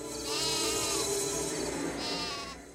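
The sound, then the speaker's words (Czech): Sheep bleat in a pen: a long, wavering bleat followed by a shorter second one, loud and clear with no voices over them. “Pored njih u toru ovce su dremale.”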